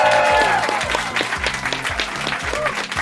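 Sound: audience applause and cheering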